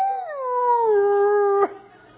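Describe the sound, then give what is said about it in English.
A preacher in church imitates a neighbor's hound dog's howl: one long, wavering tone that slides down in pitch, holds steady, then breaks off abruptly. It is loud, with no other talking. “Somebody in my neighborhood, I haven't found it yet, but they got a hound dog.”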